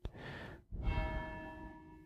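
Church bells ring out with a rich, sustained metallic resonance, two strokes blending into a lingering hum, with no voices.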